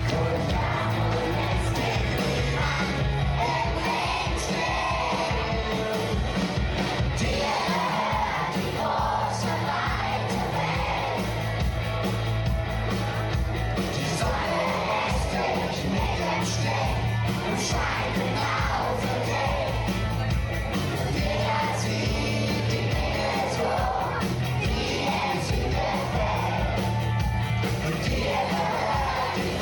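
A loud, dense live rock concert for children, with a crowd yelling and cheering over steady thumping bass and full band sound that stays at an even, high level throughout.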